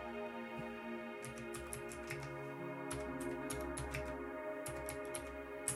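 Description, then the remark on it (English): Irregular bursts of sharp, clacky keystrokes from a mechanical keyboard, typed slowly and unevenly with two fingers with short pauses, over a steady humming tonal background. “And I've got one of them special mechanical keyboards because it sounds cool.”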